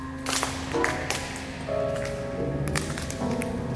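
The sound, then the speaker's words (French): Footsteps crunch over broken glass from smashed ceiling neon tubes in a series of irregular steps, with sharp crackling bursts over a steady low hum, inside a gigantic, echoing hangar of a former Thomson CSF site in the Paris region. “Là on marche sur du verre, ça vite, c'est les néons qui sont au plafond, qui se sont fait casser.”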